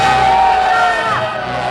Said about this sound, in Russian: Когда он уже совсем отчаялся, раздались громкие крики.